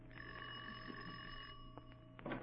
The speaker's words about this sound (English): Ring the bell, Patsy.